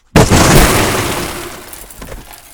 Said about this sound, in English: there you have it, an explosion